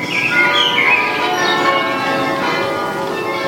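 Bells pealing from the bell tower at the top of the town of Mons, Belgium, a dense wash of overlapping resonant tones ringing loudly and steadily throughout, with no voices present.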